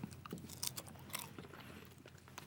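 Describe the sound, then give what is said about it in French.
Loud crunching of a walnut snack with a hint of curry, with repeated sharp bites and chewing cracks in an uneven rhythm, no talking. “C'est croquant, on peut le dire. D'ailleurs, ça s'entend au micro.”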